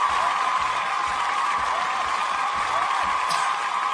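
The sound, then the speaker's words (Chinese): Steady audience applause for three contestants in a competition fills the whole stretch, a dense, even wash of clapping that holds the same loudness throughout without building or fading. “我们首先掌声鼓励一下我们的上面的三位选手。”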